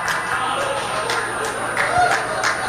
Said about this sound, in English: Oh, the disappointment in the crowd.